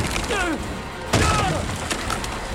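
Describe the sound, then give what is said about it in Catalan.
A man stomps hard on wooden floorboards where a fridge had stood, followed by splintering cracks and a few sharper snaps as the boards break and open a hole in the floor, with a brief vocal sound underneath. “En Dick trepitja amb força les posts de terra on hi havia la nevera.”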